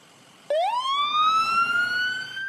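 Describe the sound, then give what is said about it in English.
An ambulance siren bursts on suddenly after a brief quiet moment, its tone sweeping upward and then holding a steady, loud wail, with no voices, as the ambulance takes an injured woman to the hospital after a 911 call in Louisiana. “And, of course, the ambulance took Patsy to the hospital at that point.”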